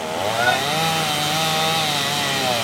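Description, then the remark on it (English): A chainsaw roars steadily as a man up in a bucket cuts loose the bottom half of a storm-snapped wooden utility pole at the corner of Chiquita and West 19th Lane. Its buzzing engine wavers slightly in pitch under load, loud and unbroken throughout, with no voices. “a man up in a bucket cuts the bottom half loose with a chainsaw”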